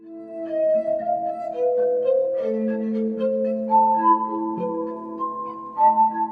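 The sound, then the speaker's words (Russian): A Russian musician plays a verrophone, a glass-organ-like instrument, in Kyiv: slow, overlapping sustained notes with a pure, ringing, crystal-like glassy tone, chords swelling and shifting steadily, with no voices. “Это подобие стеклянного органа называется верафон, и он, согласитесь, издает поистине хрустальный звук.”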